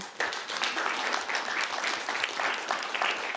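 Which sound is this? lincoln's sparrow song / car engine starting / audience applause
audience applause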